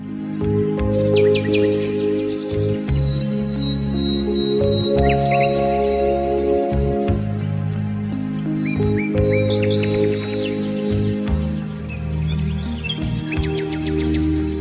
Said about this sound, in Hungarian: És madárdalt.